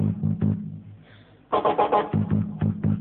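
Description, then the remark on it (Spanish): Engine revving and roaring from a coin-operated arcade car racing game, a steady low motor drone broken by a burst of louder bright revs midway, then pulsing rhythmically, with no talking. “Ah, carrera de auto.”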